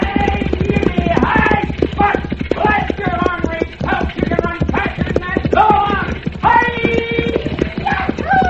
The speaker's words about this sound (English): Pancho, there is only one hombre who can yell like that. Catamount Cox.